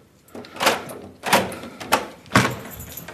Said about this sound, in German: So, wir können jetzt die Türen öffnen und kommen erst in einen Zwischenraum.